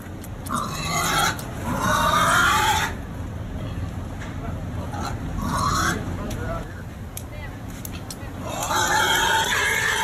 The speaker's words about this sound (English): let's hear some of the audio of the obviously distressed pig